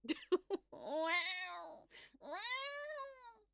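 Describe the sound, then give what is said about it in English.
A voice imitates a cat, singing two long, wavering meow-like yowls after a few short clicks. Fairly loud, with a brief pause between the drawn-out notes. “Oh, Jesus, I'm not singing this like a cat. Oh, yes, I am.”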